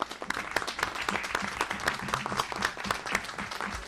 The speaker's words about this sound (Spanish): Así que felicitaciones y un aplauso para los chicos.